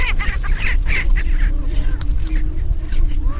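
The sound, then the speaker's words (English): Many prairie chickens call together on a booming ground in the Buena Vista grasslands at 5 a.m. in pitch darkness, overlapping cackles and whoops over a low, steady hum of booming, with no clear pauses. “It's hard to make out the prairie chickens, but you can already hear them.”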